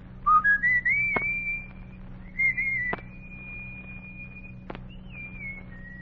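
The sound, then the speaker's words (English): A boy on Logan Street in Washington, D.C. whistles a short tune to call his gang together on a hot summer evening, climbing through a few quick notes before settling into long held tones, with a few sharp clicks and a low steady hum behind. “He was a boy on Logan Street in Washington, D.C., looking for a way to play the tune he was whistling.”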